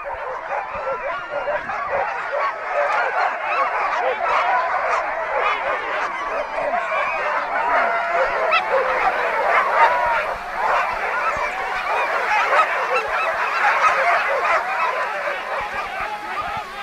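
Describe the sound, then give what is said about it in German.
A large pack of sled dogs barks, yelps and howls together at the start of a sled dog race, before the starter lowers the flag, in a dense, continuous clamor, loud throughout without pause, with no one speaking. “Die Hunde wissen ganz genau, jetzt kommt es drauf an, keine Kraft mehr ins Bellen legen, sondern ziehen, losziehen.”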